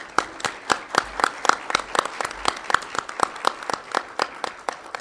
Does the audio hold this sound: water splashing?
no